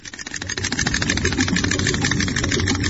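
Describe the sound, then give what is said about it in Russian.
A magic stove's engine roars to life at the spell "by the pike's command, full speed", swelling within half a second into a loud, steady, rapid mechanical chugging that holds at full throttle with no voices. “Печка... По щучьему велению полный ход.”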